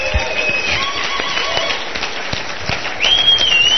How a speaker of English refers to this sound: And again, give Mr. Hale one more round of applause for coming up here.